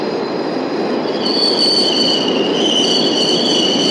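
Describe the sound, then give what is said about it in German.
A Berlin U-Bahn train coming from Leinestraße through the East sector rolls steadily into Wolterstraße station in West Berlin, its wheels squealing in high, sustained tones over a dense rumble that grows slightly louder as it nears. No one speaks. “Jetzt läuft ein Zug von der Leinestraße her, kommt in den Bahnhof ein.”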